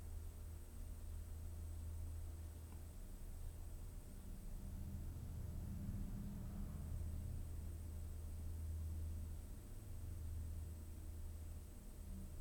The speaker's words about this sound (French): Voilà, donc on entend ce qui se passe dehors. Une machine qui est en train de passer sur la voie ferrée, un camion qui est passé, un coucou, enfin un oiseau.